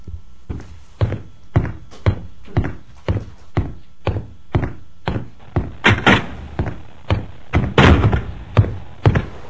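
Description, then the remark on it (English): A steady run of heavy, hollow thunks, around two per second, fairly loud, like a door knocking and footsteps as a person walks out the door to go to the car, with no voices. “He's still walking out the door.”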